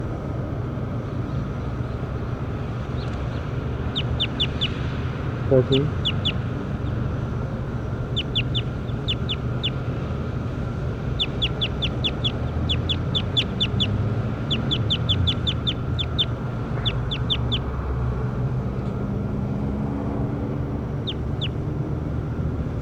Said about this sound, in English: Bird 14. That's bird 14.